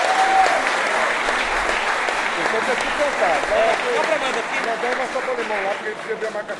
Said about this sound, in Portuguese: Pois é! De palmas pro compositor!